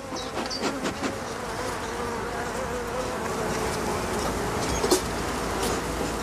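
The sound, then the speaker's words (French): A dense, continuous drone of many honeybees buzzing together around a hive, steady and layered throughout with occasional individual bees passing. “Il faut être très très doux en fait avec les abeilles, il faut y aller en douceur, parce que sinon après voilà, elles peuvent être agressives.”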